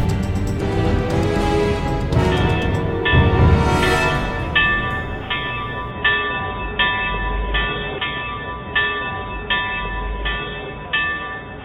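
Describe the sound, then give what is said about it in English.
An alarm bell clangs loudly in a rapid, steady rhythm, strike after strike ringing out over a low rumbling background, with no voices. “Ring the bell!”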